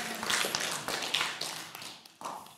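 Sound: audience clapping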